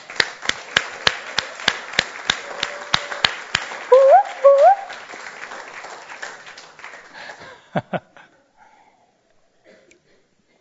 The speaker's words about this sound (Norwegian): Vet du hva? Jeg har fått verdens beste svigerinne. Skal vi gi en varm klapp?